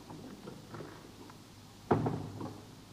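A single sharp knock-like clunk of a door beside a gas lamp being opened to go in, fairly loud, followed by a brief rattling tail over a quiet, low hum.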